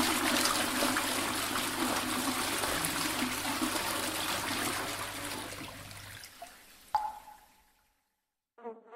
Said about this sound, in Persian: اوه نشست کنار سیفون، این خیلی داغونه. دستشو زد رو دکمه. ای دکمه سیفون رو زد